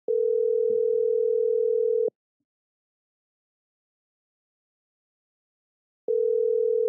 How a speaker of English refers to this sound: She better pick up this phone. I told her I was calling.